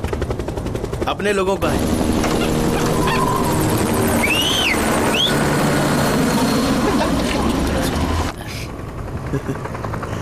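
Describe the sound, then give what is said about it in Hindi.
A helicopter sent to wipe out enemies, its steady rotor roar filling the scene, loud and continuous, with bursts of gunfire and a brief voice speaking over the din. “helicopter है”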